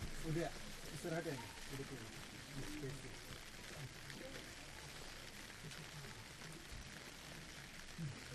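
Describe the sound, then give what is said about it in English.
Steady warm rain falls outdoors in a continuous, even hiss during a gathering, with faint murmuring voices and a few muffled sounds underneath throughout. “It's warm rain, so we won't melt.”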